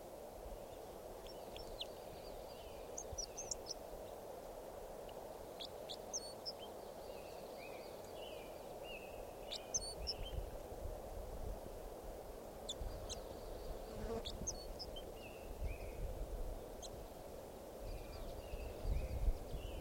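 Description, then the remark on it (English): Calls of a wild red crossbill that was just collected, catalogued as red crossbill number 547: short, sharp, high-pitched chips repeated in scattered bursts throughout, fairly faint over a steady hiss and an intermittent low rumble. “So recording that bird was just collected. He'll be number Red Cross Bill number 547.”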